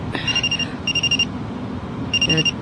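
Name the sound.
mobile phone ringing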